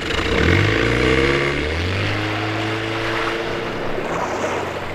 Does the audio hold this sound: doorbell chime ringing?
no